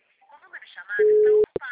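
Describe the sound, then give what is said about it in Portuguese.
A loud, steady, mid-pitched telephone busy tone sounds for about half a second when calling the city hall, then cuts off with a couple of sharp clicks, while muffled voices murmur around it. “Acho que tiraram o telefone da prefeitura do gancho.”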